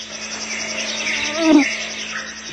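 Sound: early morning birdsong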